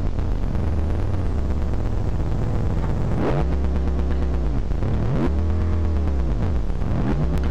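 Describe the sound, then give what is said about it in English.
A synthesizer with adjustable dials mimics a Corvette sports car engine revving, its buzzy tone sweeping up and down in pitch several times after a steady rumbling start. Loud, with no voices. “Corvette.”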